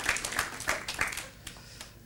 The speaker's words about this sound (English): That was the weakest applause I've ever heard in my life.